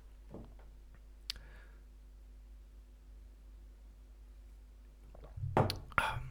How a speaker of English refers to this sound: Sorry, just having a little beverage there.